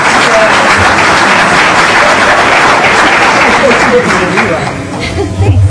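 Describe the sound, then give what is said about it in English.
A crowd at the DEF CON hacker convention applauds for a woman after a community hug, in a dense, steady wash of clapping that stays loud for several seconds, with murmuring voices and chatter mixed into the noise. “Everybody come on, clap for her.”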